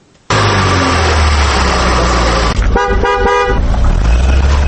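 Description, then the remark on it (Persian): Loud street traffic in Dushanbe, Tajikistan, with engines rumbling and cars passing, while a car horn blares steadily then gives several short rhythmic honks near the end. No one speaks. “در جاده های آن حدود 50,000 نوع های مختلف اتومبیل ها شب و روز حرکت می کنند.”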